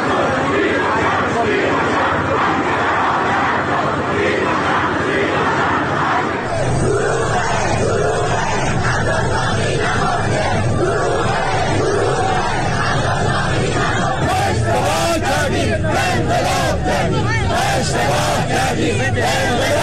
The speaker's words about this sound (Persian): گزارش ها از آبادان حاکی است که مردم این شهر شامگاه چهارشنبه دست به راهپیمایی گسترده‌ای زدند و نسبت به عدم رسیدگی به افراد زیر آوار مانده در برج فرو ریخته متروپول اعتراض کردند.